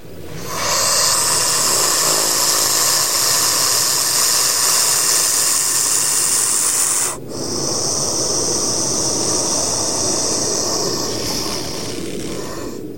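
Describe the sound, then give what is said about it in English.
A snake of a species found in the United States as far north as New Jersey hisses loudly in a long, steady rush of breathy noise, broken once by a brief pause before the hiss resumes and slowly fades. No one speaks. “They grunt, hiss, and rattle their tails against dead leaves to scare potential predators away.”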